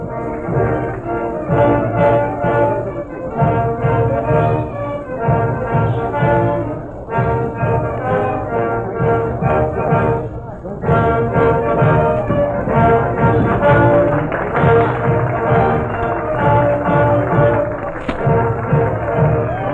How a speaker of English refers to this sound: We are standing here. Let's listen to the band music just a second.